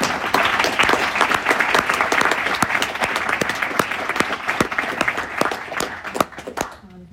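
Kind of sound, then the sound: crowd, audience applause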